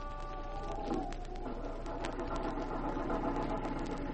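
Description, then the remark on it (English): A car engine runs steadily, a continuous low, throbbing hum with faint rattles and clicks over it, as a car drives on the highway into the former mining town of Carville and looks for a parking spot. No one speaks. “Oh, there's a parking spot. Uh-huh. I used to tell Larry... Don't turn around, dear. Huh? Just park quickly and quietly.”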